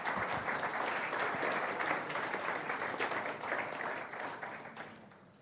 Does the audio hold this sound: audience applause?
yes